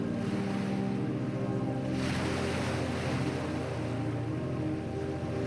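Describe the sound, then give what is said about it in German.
Steady ocean surf washes and rumbles continuously, with a broad hiss that swells slightly about two seconds in, under a low engine-like drone; no voices. “Vielleicht hörst du noch das Meeresrauschen im Nachgang, während du sanft ins Reich der Träume gleitest.”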